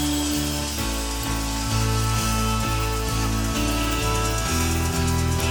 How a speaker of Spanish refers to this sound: A levantar un aplauso grande al nombre de Jesús. Bien grande ese aplauso al nombre de Cristo, el Rey de Reyes.